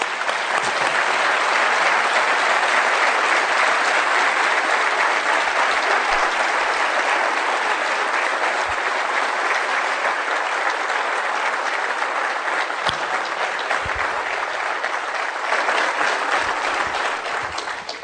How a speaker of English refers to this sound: We got to cure our economic dysfunction, and we got to cure our political dysfunction. I think I'll lead the applause on that one.